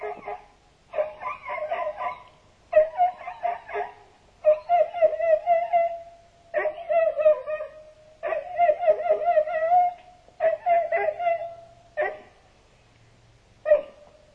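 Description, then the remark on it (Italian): A politician's dog whines and yelps in a run of drawn-out, pitch-sliding cries with short barks mixed in, coming in fairly loud bursts with brief pauses between them. “Sì, sì, sì, per chi non lo sapesse, si tratta della viva voce del cane dell'onorevole.”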